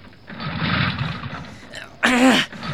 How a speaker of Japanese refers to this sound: かかれよ。 エンジンがかからない。